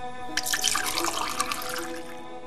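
Water is poured steadily into a glass for about two seconds, a close, bright splashing trickle with a rising ring as it fills, then it stops. No one speaks.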